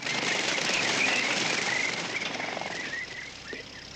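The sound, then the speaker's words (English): A burst of birds taking off from roadside bushes, with a dense rush of fluttering wings and a few faint chirps, steady before easing off slightly toward the end. “Old Man Moss dives under the truck as birds take off from bushes.”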